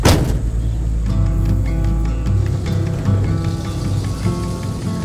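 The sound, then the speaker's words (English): An antique truck crawls down Highway 68, its engine droning steadily from inside the cab, a loud, continuous low rumble with a humming tone and broad road noise rushing underneath, and no one talking. “As we crawl down Highway 68 in the antique truck, looking out to the left or the right, everything kind of runs together.”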